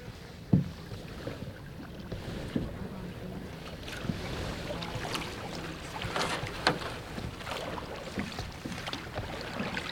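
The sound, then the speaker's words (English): A canoe glides across calm water in the early morning during duck season, with one person in the bow and another steering from the stern on the way to a hunting spot; soft swishing and a few light knocks and splashes from paddling over a steady, faint wash of wind and water; no one speaks. “I'm in the bow of the canoe”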